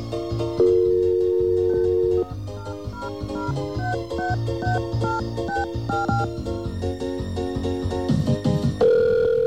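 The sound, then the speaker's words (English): Telephone line tones on an outgoing call to the MTA Bridges and Tunnels E-ZPass Service Center: a steady tone, then a busy run of electronic beeps at shifting pitches, ending on another steady held tone. No one speaks. “Okay, 9X strikes again. Let's try this one more time.”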